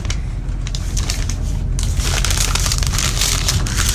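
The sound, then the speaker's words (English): Wrapping paper crackles and rips in a steady, dense crinkling that grows louder and busier partway through, with no voices over it. It is the gift wrap being torn open on a present, a pie. “I like the wrapping paper, it's very nice.”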